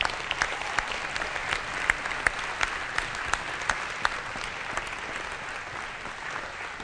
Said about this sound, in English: Clap offering the Lord.